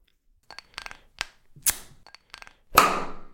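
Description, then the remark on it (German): A few small clicks and rattles of handling, then the cap of a bottle of Fever-Tree tonic water twists off with a sharp pressurized pop and a loud fizzing hiss that fades out. “Ja, und auf jeden Fall, jetzt machen wir uns ein Fever Tree auf.”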